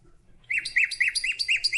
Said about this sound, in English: You hear that? Let's let it go again. Wait for it. You have any idea about this bird? You ever heard it before? Let's hear it again. Come on. Sing for us.